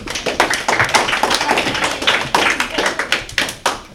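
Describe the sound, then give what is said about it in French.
An audience at a quiz game applauds contestants after a correct answer, a steady crowd of overlapping hand claps that carries on for several seconds at an even, moderately loud level, with no one talking over it. “On peut les applaudir.”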